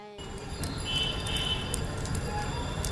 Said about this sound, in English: Just listen to that. It is raining again here in Bihar. The rains this year may have been worse than normal, but the monsoon always causes flooding in South Asia.